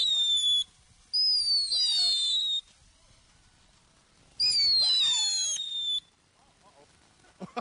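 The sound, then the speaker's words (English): A killer bee firework goes off, letting out loud, shrill whistling shrieks in three bursts, the longer two gliding slightly downward in pitch, with crackling underneath and brief quiet gaps between. “All right, this is a killer bee now.”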